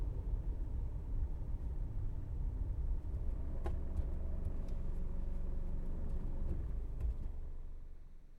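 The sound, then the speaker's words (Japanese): A car's low, steady engine and road rumble heard from inside, with a few faint clicks midway; the drone eases slightly toward the end as the vehicle slows to pull over at a passenger's request. “ねえ、お兄ちゃん、ちょっと車止めてもらってもいいですか？”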